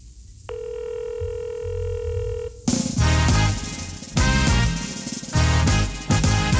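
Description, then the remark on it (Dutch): A single steady ringing tone over a phone line as someone calls an aunt, lasting about two seconds, then cuts off abruptly as loud, busy music takes over. No one speaks. “De telefoon gaat over.”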